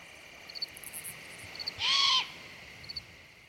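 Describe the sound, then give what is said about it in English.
A young great horned owl gives a single harsh, hissing screech lasting about half a second, standing out clearly over a steady drone of insects at night, in a forest along the Niobrara River above burbling water, in September. “I suspect this horrible sound is a young great horned owl.”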